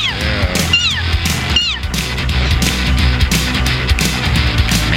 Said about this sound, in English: Best meow in the game.